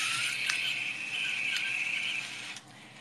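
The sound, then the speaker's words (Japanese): A steady, high-pitched whirring grind from an electric mill, running continuously for about two and a half seconds with a few brief clicks, then cutting off abruptly. “それでは聞いてください。電動ミルの音。”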